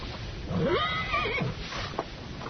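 horse neighing

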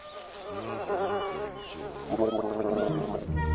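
bees buzzing

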